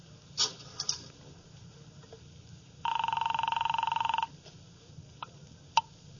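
A single buzzy telephone ring comes through the line, lasting about a second and a half, with faint clicks and handling noises before and after it and no one talking.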